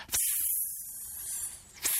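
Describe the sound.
A voice imitates a hissing west wind, a steady, breathy high-pitched hiss held for about two seconds, fairly loud, with a sharp burst at the start and another just before the end.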